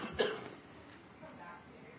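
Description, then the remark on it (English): A single short cough bursts out near the start, fairly loud, then fades into quiet background hiss for the rest of the moment. “I'm coughing right now.”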